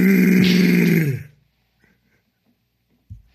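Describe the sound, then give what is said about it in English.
A female tiger gives one loud, rough, low-pitched roaring call lasting just over a second, then it cuts to near silence broken only by a faint soft thump. “That's a female. That's terrifying and not arousing. Like, as if I was a male tiger, I almost said as a male tiger.”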